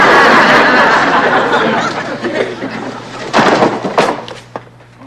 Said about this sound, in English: how many times have I told you, shove the drawer back in when you finish?